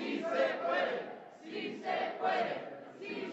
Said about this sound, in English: I don't really have to play much more than this, but you can see they go into the Capitol, no issues. They're flooding the hallway, screaming and hollering.